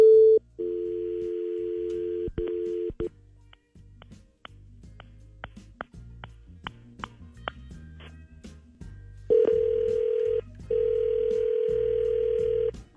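A phone line plays a steady dial tone, then a quick series of short dialing beeps and clicks, followed by two long ringing tones as the call goes through. Nobody speaks.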